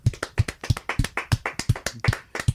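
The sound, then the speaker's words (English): A brief round of applause from just one or two people welcoming a guest: about eight crisp, evenly spaced hand claps in a quick steady rhythm, clear, with no talking. “Let's give her a little round of applause.”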